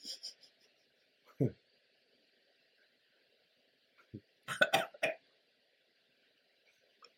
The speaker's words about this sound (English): We got a Belching Jedi drinking the Belching Beaver.